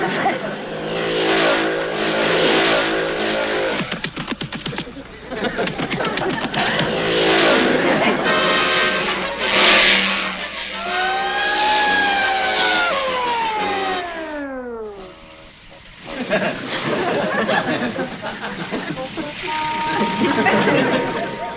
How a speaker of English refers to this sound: Three cars speeding? Yeah? The first car is being driven by a what? A baby?